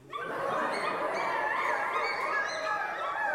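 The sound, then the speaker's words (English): An audience of children and adults imitates a dog in an animal-noise game, a dense overlapping chorus of barks, yips and whimpers rising together and sustained loudly for a few seconds. “When I say an animal, you tell me their noise.”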